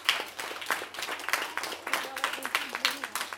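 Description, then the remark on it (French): A crowd applauds steadily to encourage the participants just before a debate begins, many hands clapping in a dense, rapid patter that stays at an even, moderate level throughout with no voices standing out. “Avant de commencer, on va les applaudir une dernière fois pour les encourager, s'il vous plaît.”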